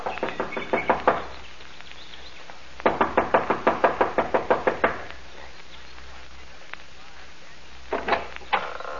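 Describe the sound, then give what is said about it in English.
Rapid bursts of impatient knocking by a young woman on the front door of a small mountain lodge, three quick volleys of sharp raps with pauses between, and a few final knocks at the end. “gets out of the car and runs up the steps of the lodge to the front door. She knocks impatiently, looking about anxiously.”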